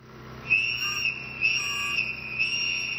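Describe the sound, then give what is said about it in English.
A shrill, high whistle sounds continuously, swelling into three sharper blasts about a second apart, piercing over faint background noise, with no one talking. It is a warning whistle used to signal residents when ICE immigration agents are in the Pilsen neighborhood. “The zines and whistles instruct volunteers how to signal to residents when ICE is in the neighborhood.”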